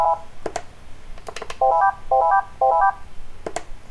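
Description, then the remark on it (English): A simple built-in phone ringtone, previewed from the phone's ringtone settings, plays a short rising three-note beep pattern three times in quick succession, surrounded by sharp clicks and taps, with no talking. “Yeah, most of ringtones are like that.”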